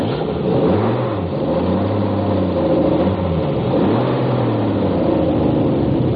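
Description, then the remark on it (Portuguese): A heavy bus engine revs as the bus pulls away toward the city, its low drone climbing and dipping through several gear-like surges, loud with a steady rumble and no voices. “Toca o carro, velho. Não pega mais ninguém.”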